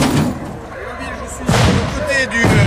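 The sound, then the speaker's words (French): A few heavy, hollow knocks strike the thick metal door of an armored vehicle that has just arrived, spaced out over a couple of seconds, with muffled voices and rumbling background noise underneath. “Toque à la porte.”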